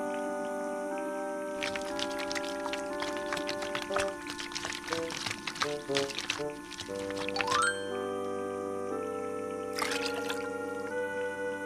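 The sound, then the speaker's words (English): Water is swished around in a mouth for several seconds in wet, sloshing bursts after brushing teeth, then there's a short pause and a quick spit of the water, over a steady background hum. “And then you get some water in your mouth and swish it around.”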